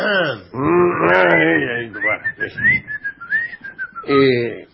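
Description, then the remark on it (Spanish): A person whistles a short, wavering tune for about two seconds, framed by drawn-out voiced sounds like a moan or hum before and after. “O sea, no digo que usted le diga hola, no, pero tosa, sí, sí, sí, hay que tosar. Silbe, o algo, no sé.”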